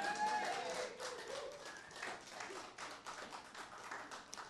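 An audience applauds a performer at a KC Cafe Radio event, many hands clapping together in a dense, steady wash of sound that holds at a moderate level for several seconds, with no speech over it.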